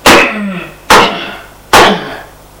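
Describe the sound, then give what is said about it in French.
Three heavy, booming thumps of a fist pounding on an apartment door, evenly spaced under a second apart, each loud and sharp with a short ringing decay. No voices. “Le coup de poing.”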